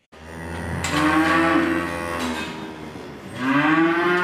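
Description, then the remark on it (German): Young cows moo loudly in the barn of farmer Rob Winkjes in the Netherlands, two long drawn-out calls, the second rising after a brief dip, with a hollow echo and no talking. Their milk is made into cheese for the German market. “In diesem Stall stehen die jungen Kühe von Bauer Rob Winkjes, 130 Besitzer insgesamt.”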